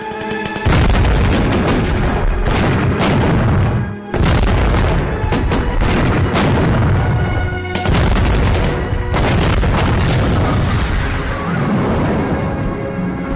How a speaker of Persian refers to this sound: تیراندازی و پرتاب نارنجک ادامه داره.